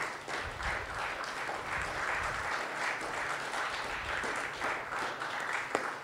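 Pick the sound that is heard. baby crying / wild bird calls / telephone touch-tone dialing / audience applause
audience applause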